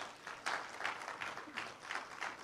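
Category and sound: crowd, audience hand clapping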